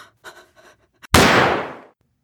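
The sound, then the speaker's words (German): A single loud, sharp shot from a small pistol cracks out with a brief echoing tail, preceded by a few quick, faint breathy gasps. “Hasserfüllt richtet Alois ein zweites Mal die kleine Pistole in seiner Hand auf Anna.”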